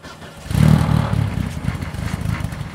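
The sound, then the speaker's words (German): A race car engine, running again after repairs made between race heats, rumbles loudly, surging up after a brief moment and then holding a steady, throaty idle with a rough, pulsing texture. “Bei dem läuft der Motor mittlerweile wieder.”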